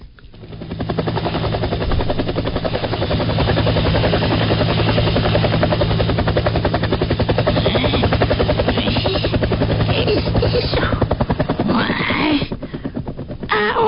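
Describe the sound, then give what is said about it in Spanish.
A helicopter flies overhead, its rotor chopping in a steady, loud rhythmic thump with a whining engine buzz that holds for the whole stretch. “Y hacia su casa se dirigieron todos en grandes autos, y por delante un helicóptero.”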